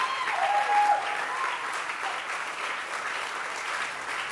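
An audience claps hands in a dense, steady wash of applause lasting several seconds, with a faint whistle-like tone briefly riding above it near the start.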